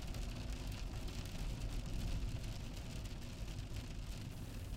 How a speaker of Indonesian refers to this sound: Wipers melakukan pekerjaannya, menghapus setiap rintik hujan yang menyentuh kaca.